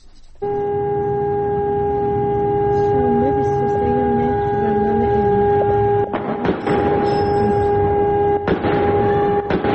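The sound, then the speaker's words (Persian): A siren sounds continuously, holding a steady high tone for the whole stretch, recorded by eyewitnesses during a large fire. Faint voices murmur underneath, and a few sudden noisy bursts break in near the end. “در شبکه‌های اجتماعی اون چیزی که ما شنیدیم و دیدیم تا الان همخوان شده میگن که آتش‌سوزی گسترده بوده، صدای آژیر بوده، تیراندازی بوده، صدای انفجار بوده.”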